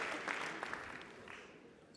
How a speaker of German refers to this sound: Herzlich, das ist ein Applaus. Ja, wunderbar, das so ist großartig.